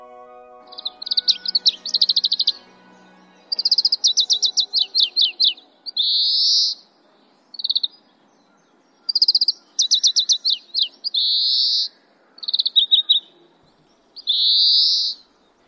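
A single Oriental greenfinch, about 14 cm long, perched on an electric wire in front of a kindergarten gate in a hilly, wooded area, sings bright, high trilling phrases, rolling kirikiri-korokoro twitters interspersed with buzzy drawn-out notes, repeated in bursts with short pauses, clear with no talking.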